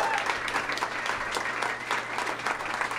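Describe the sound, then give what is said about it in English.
Steady audience applause welcoming a donor guest on the show Douglas Movies, a dense, even patter of many hands clapping at once that holds at a fairly constant level for about three seconds, with no voices standing out. “Let's hear it for him.”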